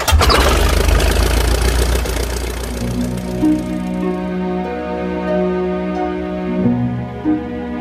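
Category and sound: vehicle, engine starting up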